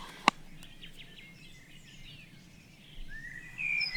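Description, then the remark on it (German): Faint, distant great tit song at 4:30: a few thin, high, repeated chirping notes carried over a quiet outdoor background, with one sharp click near the start and no talking. “Ich habe von weitem eine Kohlmeise gehört.”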